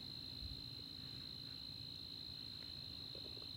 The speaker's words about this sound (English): So the crickets are out there, but that's their cricket business. They're singing, they're suffering, actually.